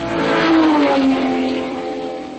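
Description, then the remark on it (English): A Porsche sports car engine revs up loudly, its pitch climbing then easing into a steady, throaty roar over a couple of seconds, with no voices. “For a car lover, there can be few sounds as rewarding as the big cat roar of a genuine Porsche engine, especially if you're the one who's driving.”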